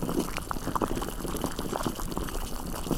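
Water bubbling steadily at a rolling boil while food is being prepared, a dense, continuous gurgle of small pops and burbles, with no voices.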